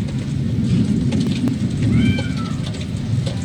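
Steady rain falls while an electrical storm is awaited, a dense, continuous wash of noise with a heavy low rumble and scattered patters of drops. Midway, a short, high, gliding cry briefly rises above it.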